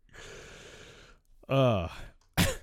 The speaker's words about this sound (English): oh, shit. As I'm still like coughing, I'm going to have to like pause for a second. Shit. Oh, a little bit better. I cleared out my throat.